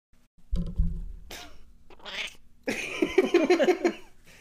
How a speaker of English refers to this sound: That meow of disgust. She's not having it.